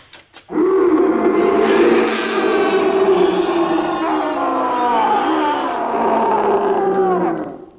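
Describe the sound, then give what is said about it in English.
A tiger's roar, loud: one long, drawn-out bellow lasting several seconds, with a deep, wavering pitch and no other sounds around it. “The great advantage of the tiger in unarmed combat is that he eats not only the fruit-laden foe, but also the red currants”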